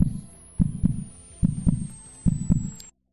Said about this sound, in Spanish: Es un latido incesante que continúa y que cada vez te va a más. Es incómodo, ¿verdad?